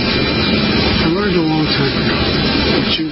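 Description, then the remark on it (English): A steady, loud jet engine roar aboard Air Force One fills the whole stretch, a dense continuous rumble and hiss that nearly buries a man's voice talking to reporters about mass shootings underneath it. “Okay, it's really hard to hear him because of the jet noise and so forth, obviously.”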